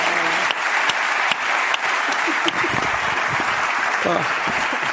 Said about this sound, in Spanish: Un aplauso para Okuda en la Resistencia.